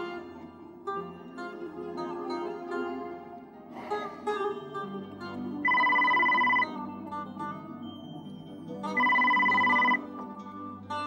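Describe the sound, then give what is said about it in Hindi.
A telephone rings twice, each ring a steady electronic trill lasting about a second, clear and fairly loud over a soft, continuous musical background with no one speaking. “Hello, जी जी जी, एक minute hold कीजिए, तुम्हारा फोन है बेटा।”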